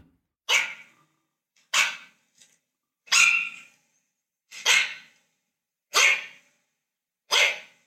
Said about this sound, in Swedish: för jag tänkte att du och jag skulle få lyssna här på hur just en mops låter.